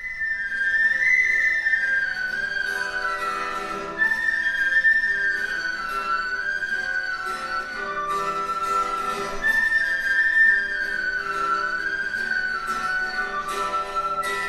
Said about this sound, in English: I played it a lot every time I was sad, and every time I was sad, penny whistle would help me.